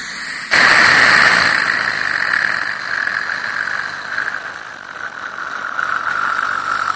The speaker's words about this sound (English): That's what you use sometimes when doing something with my teeth, and maybe you actually even squirt some water, but you don't want me to swallow it, and you put that straw in, and it's that suction thing